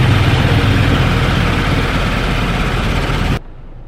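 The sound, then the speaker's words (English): A car idles inside a car wash, its low engine rumble steady beneath a loud, constant wash of hissing spray, then the noise cuts off abruptly just before the end. No one speaks. “Okay, I'm at the car wash, and I done forgot what the fuck I was saying while I was in the car wash.”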